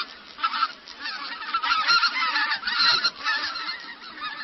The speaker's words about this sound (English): Well, we also have a little bit of sound from the white-fronted goose, which is a species that we don't see nearly as often, right.